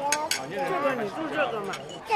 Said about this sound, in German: Sie sitzt mit ihren Eltern und Großeltern an einem runden Tisch in einem traditionsreichen Dim Sum-Restaurant